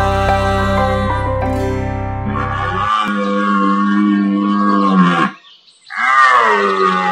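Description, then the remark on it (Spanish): A deer bellows loudly, a long, harsh, drawn-out roar that briefly breaks off before a second bellowing call rises again, with no voices present. “Como el ciervo brama por las corrientes de las aguas, así clama por ti, oh Dios, el alma mía.”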